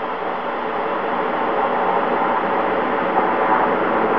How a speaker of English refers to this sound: There's very, very little movement out there now among the helicopters, three of them hovering at about 40 feet on three different sides around the command module.